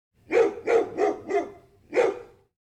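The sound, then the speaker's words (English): A large dog barks five times with a deep, booming voice: four loud barks in a steady run, a short pause, then one final bark. No one speaks. “The tallest dog in the world is a Great Dane called Gibson.”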